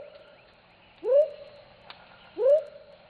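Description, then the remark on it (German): A large whistling frog, more than three times the size of a smaller member of its family, gives two short, loud whistles about a second apart. Each sweeps quickly upward, then settles into a level tone, over a faint background hum with a brief click between calls. “Dieser Pfeiffrosch gehört zwar zur gleichen Familie, ist aber mehr als dreimal so groß wie sein Kollege von vorhin. Und das hört man auch.”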